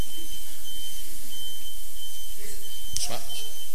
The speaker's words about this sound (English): Sorry, it's just a truck backing up. We've all heard that before.